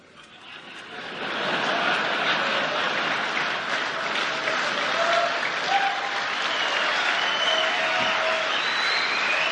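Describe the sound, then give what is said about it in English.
A large crowd of chiefs of police from all over the United States cheers and applauds, swelling over the first couple of seconds into a steady roar, with shrill whistles and hoots rising above the noise now and then. “Do you hear the hooting? Do you hear the cheering?”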